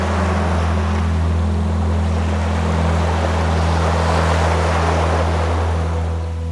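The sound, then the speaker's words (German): A continuous wash of ocean waves at the seaside, loud, with a steady low droning hum running underneath throughout and no voices. “Ein Tag am Meer.”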